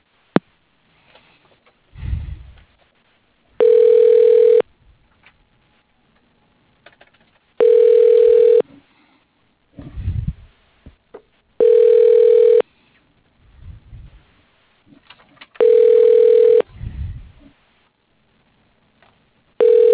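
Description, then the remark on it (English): The Linfield Engineering phone line rings out an extension: four steady electronic ring tones, each about a second long, spaced evenly several seconds apart, with faint low rumbling noise in the gaps. “Please hold while I try that extension.”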